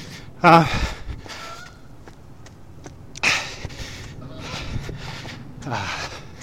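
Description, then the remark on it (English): Geese flying overhead honk in a few scattered, intermittent calls, one sharp honk early on and softer ones spread across several seconds, over a low outdoor background hiss. “So just wanted to stop there and listen to the geese flying above.”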